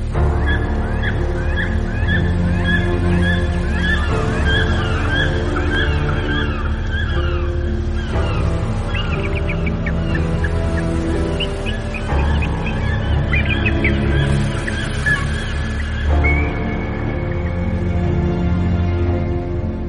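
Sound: flock of birds calling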